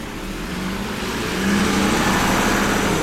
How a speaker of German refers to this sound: Ein Diesel, na sowas Besonderes, heute ist mein Glückstag. Ob es obendrauf auf dem Motor in der letzten Reihe stickig wird, das ist dann wahrscheinlich wurscht.